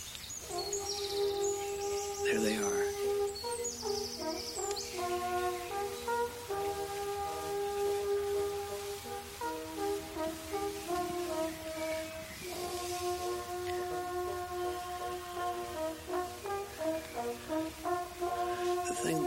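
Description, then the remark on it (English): Sustained brass horn notes sound in overlapping, shifting chords from two widely separated horn groups playing outdoors, answering one another across a wide space, while faint bird chirps sprinkle over the top. No one speaks. “Now, presently you're going to hear some horn music of the two widely separated horn groups.”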